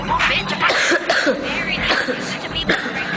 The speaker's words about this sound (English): smoker's cough.